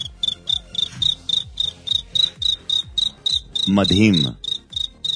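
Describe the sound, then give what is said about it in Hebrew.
A man imitates a cricket live on air in a studio: a steady run of high, shrill chirps, about four per second, clear, with a brief spoken exclamation breaking in near the end. “צרצר? כן, צרצר נשמע לי טוב.”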